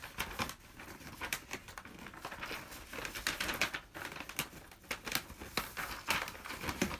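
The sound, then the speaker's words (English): Scissors slice through crisp wrapping paper, with a steady run of dry crinkling snips and rustles and sharper crackles mixed in. No one speaks. “Let's let you hear the sound effects of the paper being cut.”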